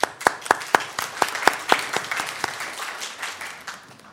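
A round of applause from a group at a college event honoring a faculty member who received the 2014-2015 Student Government Teacher of the Year Award. Several sharp, evenly spaced claps blend into a steady, dense patter of hands before gradually thinning out.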